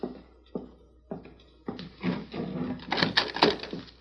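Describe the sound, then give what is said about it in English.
A door opens: a few sharp clicks and knocks of the latch, then a rising creak and scrape as it swings, with no one speaking. “Keep your hand on your gun. You don't think it's... I'm not thinking. I'm playing safe. If it's a law, we'll riddle him. Open the door.”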